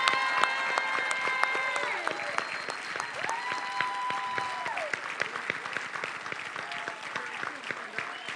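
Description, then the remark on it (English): A church audience applauds steadily for standing veterans, many hands clapping in a dense, sustained patter throughout, with faint held musical tones drifting over the clapping. “Come on, give them a hand clap.”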